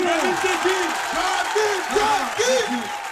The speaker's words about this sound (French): S'il vous plaît, on applaudit.